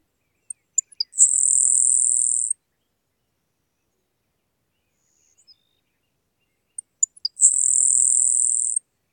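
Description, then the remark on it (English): A grasshopper sparrow sings twice, each song opening with a few sharp ticks before a thin, high, insect-like buzz lasting over a second, with quiet pauses between, clear and alone. “My favorite is the grasshopper sparrow, whose diminutive, high-pitched song sounds like the lispy call of a grasshopper.”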